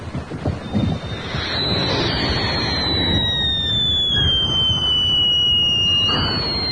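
A just-lit Whistling Dixies firework shrieks with a loud, piercing high tone that holds for several seconds, sliding slowly downward in pitch over a rough bed of hissing, wind-like noise outdoors.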